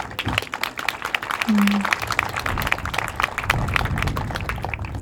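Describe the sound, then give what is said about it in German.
Audience applause, a dense patter of many hands clapping steadily for several seconds at moderate volume, with a brief low tone and some murmuring underneath. “Vielleicht gibt es auch Applaus.”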